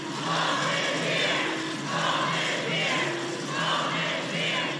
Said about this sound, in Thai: เสียงร้องตะโกน Home is here หรือบ้านของเราอยู่ที่นี่ดังกึกก้องไปทั่วบริเวณหน้าศาลฎีกาของสหรัฐในกรุงวอชิงตันดีซีนะคะเป็นเสียงของหนุ่มสาวหลายร้อยคนที่เข้าเมืองโดยไม่มีเอกสารถูกต้องหรือเรียกว่าเป็น Undocumented Immigrant เพื่อตอกย้ำว่าอเมริกาคือบ้าน